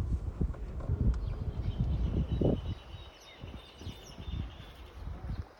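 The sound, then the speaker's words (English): Horses shuffle and clop on a small farm as they are prepared for pato practice, hooves thudding in an irregular rhythm while faint birdsong chirps in the background. “We arrive at a small farm where the horses are being prepared for pato practice.”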